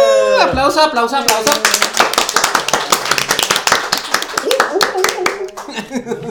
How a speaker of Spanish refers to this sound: Aplauso.